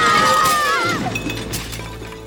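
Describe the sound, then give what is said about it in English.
Dishes crash down and shatter in a loud burst, bright ringing shards and clinks tumbling and scattering before fading into a rattling settle. “Oh, my dishes! My glitter! It's everywhere!”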